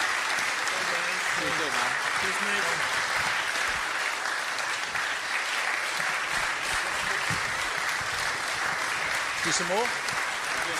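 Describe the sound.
Steady, dense applause from a crowd fills the whole stretch, a continuous patter of many hands clapping at even loudness, with brief voices murmuring underneath.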